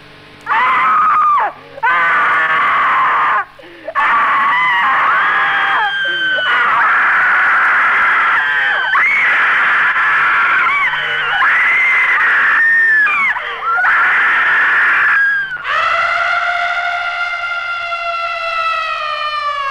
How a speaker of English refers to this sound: Don't be embarrassed about opening your mouth and letting rip with all you've got, because the person in the seat right next to you will probably be screaming too.